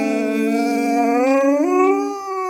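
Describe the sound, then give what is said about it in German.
A dog named Rocky howls along as if singing, one long, sustained howl, a rich tonal wail that holds steady then slides upward in pitch near the end, loud and unbroken with no talking over it. “wenn Rocky nicht bei mir ist und ich bin irgendwo unterwegs und ich höre eine Sirene, dann warte ich eigentlich nur darauf, dass Rocky mitsingt. Und zwar macht er das dann so.”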